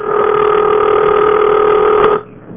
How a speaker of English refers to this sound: Okay, well, I let the dial phone stay off the hook too long again, and that ringing sound suddenly turned into a solid ringing tone like this.